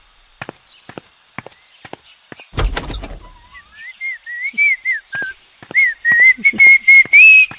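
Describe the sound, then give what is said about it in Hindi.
After a few sharp taps, a door is opened for someone arriving, rattling and scraping open with a brief noisy burst, then someone whistles a wavering tune over scattered clicks. “आ गया लगता है. खोल खोल दरवाजा. खोल.”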